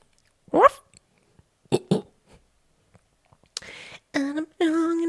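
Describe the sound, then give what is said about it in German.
A person imitates a dog in response to a doorbell ringing, letting out a few short, rough woofs and then two longer, tonal yelping barks, fairly loud with quiet gaps between. “Wenn die Schelle schellt, dann belle ich.”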